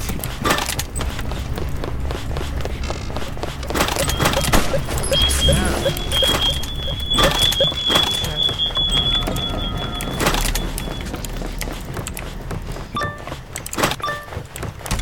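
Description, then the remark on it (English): Wood cracks and splinters loudly as a door is smashed apart, with repeated sharp breaking impacts and crunching debris over a busy, noisy background, plus a thin high electronic tone midway. “Let's see if I can door kill someone again. Like, run through the door and surprise them.”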